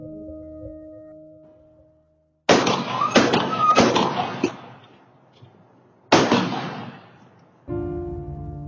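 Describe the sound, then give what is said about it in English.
Sharp, echoing gunshots ring out outdoors in a neighborhood, recorded by neighborhood surveillance cameras shortly after 6:50 a.m. as someone fires a gun at a woman: three quick cracks in a row, a short pause, then one more blast, each trailing off in reverberation, between stretches of low steady hum. “A warning, the following is actual audio caught by neighborhood surveillance cameras of the gunshots that killed”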